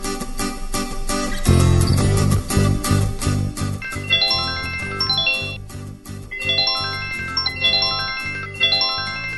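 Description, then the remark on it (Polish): A mobile phone rings in a park with a bright, melodic ringtone that repeats its chiming phrase several times, loud, following a few seconds of fuller music at the start. “Nagle dzwoni telefon.”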